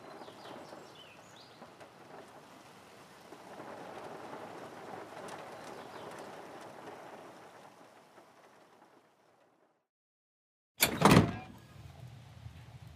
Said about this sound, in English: You look under the mat, and there is indeed an old-looking key hiding underneath. You slowly unlock the door as the rain begins to fall on the farm from the dark skies above.